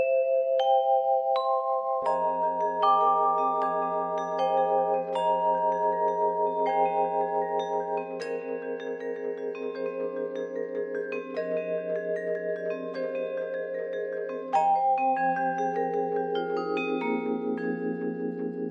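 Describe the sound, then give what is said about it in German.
Ringing metal bars played with the sustain pedal pressed so the bars vibrate freely, notes blooming and overlapping into a shimmering, bell-like wash. Steady, moderately loud melodic pattern, no voices. “Hört sich an wie in so einem Fantasieland oder so, ne? So Glocken überall und man denkt, man schwebt irgendwo rum.”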